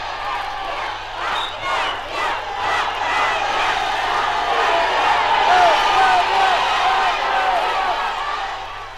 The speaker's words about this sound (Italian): nel vasto cortile dell'Istituto Friulano per Orfani di Cividale, spettatori e attori di una partita di calcio fra squadre rappresentative. Come in uno stadio, le stesse norme sportive, la stessa passione, lo stesso tifo per i colori preferiti.